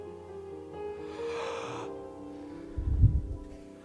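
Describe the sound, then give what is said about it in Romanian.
A person demonstrates the labored gasping breaths of someone hanging on a cross, pushing up to free the ribcage: a long, strained, rasping inhale, then a heavier, lower heave of breath near the end, with no words spoken. “Pentru că întreaga greutate stătea în 3 cuie, în mâini și în picioare și mușchii și pieptul apăsau pe cutia toracică și pentru fiecare respirație trebuia să se apese în călcâie, să-și elibereze cutia toracică să mai poată respira.”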